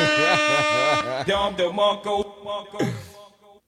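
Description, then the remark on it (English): A harsh, steady game show wrong-answer buzzer blares for about a second, with a voice talking over it, then the talking continues on its own. “I get a buzzer.”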